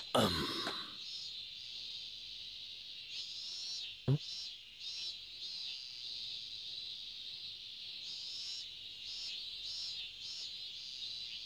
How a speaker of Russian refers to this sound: Красиво цикады стрекочет.